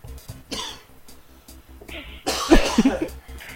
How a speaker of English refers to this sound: He's coughing.